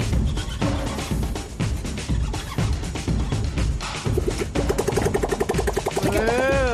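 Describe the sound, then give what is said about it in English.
An engine is cranked over with the choke applied, a steady, rhythmic chugging for several seconds, then breaks into a rough, warbling tonal sputter that rises and falls near the end. “Right, let's see if we can get some noise that sounds a bit like an engine here.”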